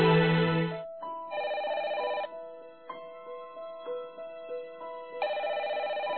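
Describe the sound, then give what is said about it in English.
A telephone rings in an apartment with a bright electronic ringtone, repeating in loud bursts separated by softer melodic tones, with no one speaking. “Gretchen has just arrived home and is looking through the refrigerator when the phone rings.”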